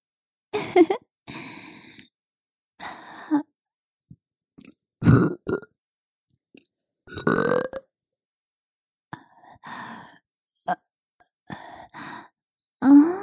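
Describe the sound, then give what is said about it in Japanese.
A series of loud burps from a mother, some long and drawn-out, others short, spaced irregularly with brief silences between them and a few soft breathy sounds mixed in. “ママのゲップ、甘くて臭くていい匂い？”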